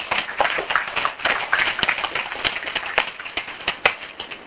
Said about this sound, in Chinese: 大家来拍手一下。